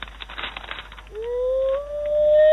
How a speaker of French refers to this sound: Ah, ne pleure pas comme ça, chien. C'est fini, non? C'est fini.